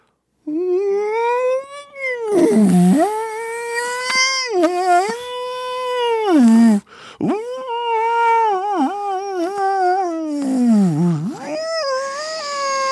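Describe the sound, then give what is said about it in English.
A person's voice imitates a whale call with long, wavering moans that rise and swoop down in pitch, sustained for several seconds at a time with brief breaks, fairly loud. “I don't know how I did on the whale sounds.”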